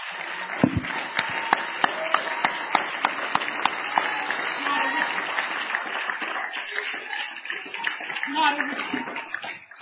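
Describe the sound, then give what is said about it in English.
A church audience at a worship service claps hands in praise, at first in a steady, sharp rhythmic beat, then breaking into loud, dense, continuous applause with voices mixed underneath. “We should clap our hands with everything that we can. Why don't we practice that right now?”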